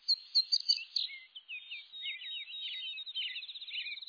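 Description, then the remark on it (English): A robin sings a rapid, continuous string of high, warbling notes and trills, steady, with no voices or other sounds around it. “The robin's insistent caroling awakens the oriole. Then the indigo bunting.”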